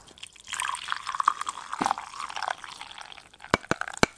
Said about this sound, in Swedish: Ja, det är det finaste ljudet som finns. Ljudet okay. av en färsk kopp kaffe som hälls upp på morgonen.